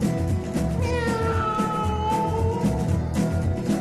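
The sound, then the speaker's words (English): A voice imitates a cat's meow in a long, drawn-out, wavering cry, loud, sung over a dense, steady musical backing. “Meow.”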